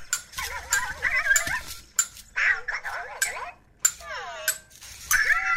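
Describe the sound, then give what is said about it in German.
A toy robot called Cosmo playing a game: several bursts of warbling, high-pitched electronic chirps and gliding bleeps, punctuated by sharp clicks and ticks, with short pauses between bursts and no one talking. “Tja, ein Roboter so. Hat immer auch seinen eigenen Kopf.”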